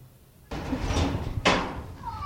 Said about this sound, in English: Knock, knock. Right now, I'm at my mother's house.